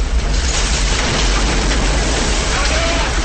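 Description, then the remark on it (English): A loud, steady roar of water gushing and rushing through a passageway, a dense churning wash of noise that holds constant without letting up. “Water bursts through a passageway.”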